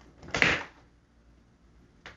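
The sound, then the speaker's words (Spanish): A bathroom door in a house swings shut with a sharp thud, followed by a fainter knock or latch click about a second and a half later, with no voices. “Se acaba de cerrar la puerta del baño.”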